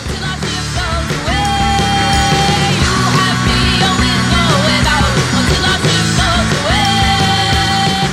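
A loud, dense rock theme song plays continuously with driving full-band instrumentation and a strained, shouted-sounding vocal line riding on top, steady and forceful for the whole stretch.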